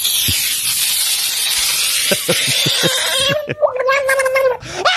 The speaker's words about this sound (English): Screaming frog in water.